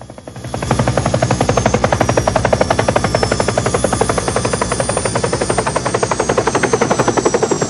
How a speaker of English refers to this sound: A helicopter comes in to land.